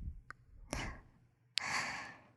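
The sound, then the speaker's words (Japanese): Soft, airy breaths exhaled right up against the microphone, a short puff followed by a longer, fuller sigh-like exhale, with no talking. “でも、それって、私の吐息に、反応しちゃってることですね。”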